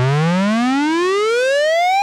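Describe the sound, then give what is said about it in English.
A buzzy, harmonically rich Moog synthesizer tone, played as modulating tones, glides steadily upward in pitch for about two seconds, loud, with no voices or other sounds. “Suppose you play me two modulating tones.”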